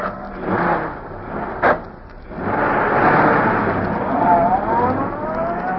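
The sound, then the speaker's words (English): A car engine starts up with a brief sharp clunk, then revs and rolls away steadily as the car swings into the street and turns toward a parking lot, its broad motor roar holding at a fairly loud level with a rising whine toward the end. “Bleeker's car swung into the street and turned toward Schaefer's parking lot.”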